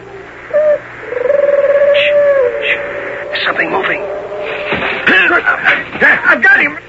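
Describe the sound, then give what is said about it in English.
Owl-like hooting calls, not owls but Minotauri signaling to each other, sound in a few drawn-out, wavering tones, followed by busier chirping and murmuring voices in a dim, outdoor-sounding scene. “Those aren't owls. It's Minotauri talk. They're after our horses.”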